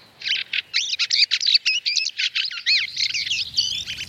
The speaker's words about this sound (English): The field fare, a welcome touch of colour, sound and romance in the Scottish countryside in winter.